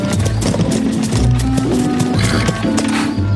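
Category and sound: vehicle, horse-drawn cart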